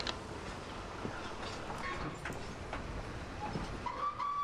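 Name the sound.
moving passenger train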